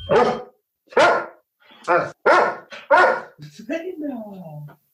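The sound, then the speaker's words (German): A dog barks loudly, five sharp barks in an uneven series, followed by a drawn-out whining whimper that trails off. “Warte, ich muss dem Hund jetzt erstmal ein Leckerli geben. Das hat er nämlich fein gemacht. Und, gebellt für unseren Podcast.”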